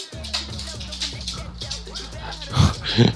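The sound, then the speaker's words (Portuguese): A dog, being pulled away from a cable, makes a run of short nasal whines and grunts, ending with two louder snorting bursts, with some faint background murmur. “Tentando tirar o cachorro do fio.”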